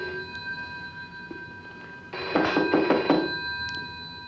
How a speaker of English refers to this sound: Why are they answering the phone and not the door?